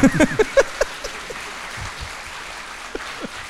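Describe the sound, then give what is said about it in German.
An audience applauds the man behind the sound desk: a burst of loud, sharp claps in the first second fades into a sustained, softer patter of many hands, with a couple of isolated claps near the end. “Ja, also großer Applaus für den Mann, der ja heute hinter dem Tonpult sitzt.”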